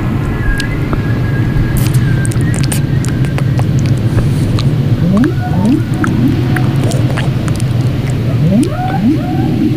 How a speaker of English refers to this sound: hear those whales?